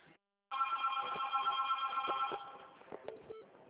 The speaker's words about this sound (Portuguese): Nossa, esse telefone é assim o dia inteiro. Ai, nem fale, não para aqui.